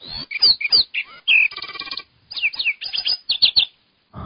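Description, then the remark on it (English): A rapid, complex bird song of sweeping whistles, chirps and buzzy trills, delivered in quick bursts with a brief pause midway, loud with no one speaking. “Again, at normal speed, this is the same bird.”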